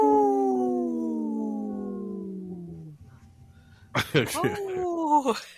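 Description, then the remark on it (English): A person imitates a wolf, holding a long howl that slowly slides downward in pitch, then lets out a second, shorter yipping howl with rising and falling wavers. Fairly loud. “I'm just into my own howl.”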